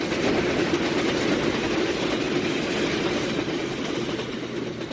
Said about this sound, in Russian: И прогремел, сверкая, третий скорый поезд.